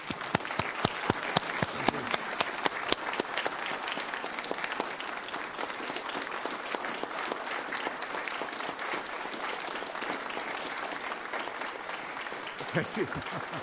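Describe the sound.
Sustained audience applause as a final round of applause for an honoree being thanked for serving, a dense wash of many hands clapping steadily for over ten seconds with a few sharper individual claps and a brief voice near the end.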